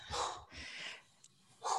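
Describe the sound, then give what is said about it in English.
A dog barks in three rough, breathy bursts: two in quick succession, then a pause before a third. The barks are fairly loud, with no talking. “Sorry about my dog.”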